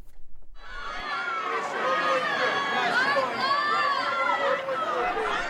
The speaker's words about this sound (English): The White House Correspondents' Dinner has a red carpet? It actually does. It's more of an extended doormat, but it is red. And I don't know where they bust these people in from, but there were screaming teenage girls.